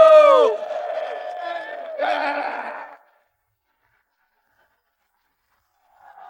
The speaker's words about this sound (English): All right, ladies and gentlemen, let's give these guys one last round of applause for the season finale of High Low!